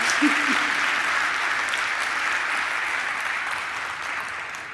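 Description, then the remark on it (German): Steady applause from an audience welcoming a speaker to a talk on nuclear disarmament, a dense, even wash of clapping that holds at a fairly loud level throughout, with a faint voice briefly audible near the start. “Dazu mit einem herzlichen Applaus”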